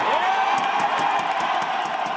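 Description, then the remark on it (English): A huge stadium crowd at the Coliseum roars in a sustained final ovation for the Athletics while the Tigers celebrate on the infield, a loud, dense wash of cheering with scattered whoops and clapping running steadily throughout. “As the Tigers celebrated on the infield, the Coliseum crowd gave the Athletics one last ovation.”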